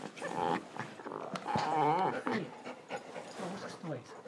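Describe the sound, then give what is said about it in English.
A dog with its toy whimpers and growls in a run of strained vocalizations, with high wavering whines rising over lower rumbling grunts and panting breaths, continuous for several seconds. “What's this noise? It's ear splitting. What with him and his silly toy”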